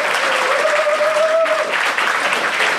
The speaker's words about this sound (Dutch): Dank jullie wel voor jullie spontane applaus ook